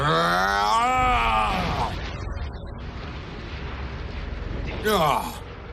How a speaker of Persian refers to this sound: اون صدا یه حمله دو مرحله ی صوت و انفجار هوشمندانه بود.